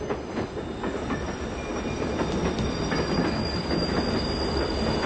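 A train rumbles past, a dense, steady roar with a thin, sustained metallic squeal from the wheels riding above it throughout. No one speaks.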